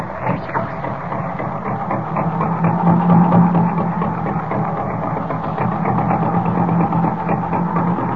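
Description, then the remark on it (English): An old car engine sputters to life and settles into a steady, rattling idle, a continuous low rumble with a throbbing hum that holds for several seconds. “Hope I can get this crate started. There she goes.”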